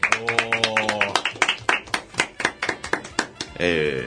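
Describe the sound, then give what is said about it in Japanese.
A few people in a studio clap in a brisk, uneven burst of sharp claps lasting a few seconds, marking the 398th broadcast of a live talk show about job hunting. A voice rings out at the start and another speaks again as the clapping ends. “拍手。”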